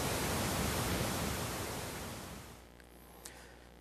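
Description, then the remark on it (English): A steady, loud wash of perfect pink noise test signal, played after an EQ preset that makes the system flat, an even full-range hiss like static or surf, runs alone for a couple of seconds, then fades out to near silence with a faint low hum. “And somewhere in here, in about 5 more seconds, it's going to switch over to perfect pink noise.”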